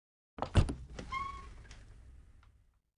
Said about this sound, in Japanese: クレア様は箱をしまうと、礼拝堂の横のドアを開き、廊下の奥へと進みます。廊下の突き当たりの青い扉、クレア様が扉を開けます。